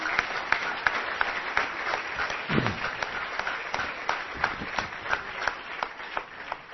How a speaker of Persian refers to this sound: حسابی خودتون رو تشویق کنین. مرسی.